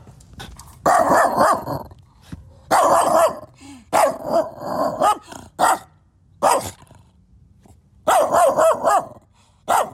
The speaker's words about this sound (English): It is a dog, of course, loud and frightening.